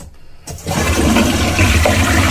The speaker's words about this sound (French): T'avais pas les moyens de te payer une toilette qui faisait pas de bruit. Elle fait pas de bruit quand elle se remplit, regarde.